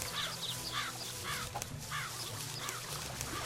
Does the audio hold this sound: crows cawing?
yes